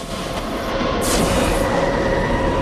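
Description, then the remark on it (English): A subway train surges through a tunnel with a steady, loud rumble, a brief high whooshing hiss rising over the noise midway through. No voices are heard. “In fast motion, traffic streams across Times Square and a subway train surges through a tunnel.”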